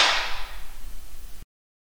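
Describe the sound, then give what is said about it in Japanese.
A single sharp slap to the face, crisp, its bright smack fading quickly into a soft low rumble before cutting off. No one speaks. “ほら、だんだんビンタきつくなってくぞ。”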